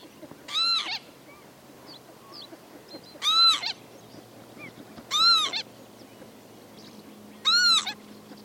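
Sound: northern lapwing calls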